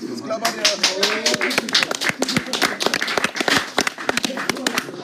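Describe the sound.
A crowd claps steadily for about five seconds for two helpers at the check-in, a dense patter of sharp hand claps at a fairly loud, even level, with indistinct voices and cheers mixed underneath.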